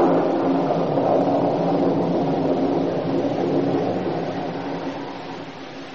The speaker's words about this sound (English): As she turned and walked heavily upstairs to her room, the storm which had been gathering strength finally burst in all its fury.